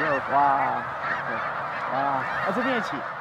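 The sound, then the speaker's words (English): A flock of tens of thousands of snow geese taking flight at once at Middle Creek Wildlife Management Area, on the border of Lebanon and Lancaster counties, honks in a dense, overlapping chorus, loud and continuous, with many calls layered together throughout. “Tens of thousands of snow geese are taking flight at once, and she's one of the dozens of people taking it all in.”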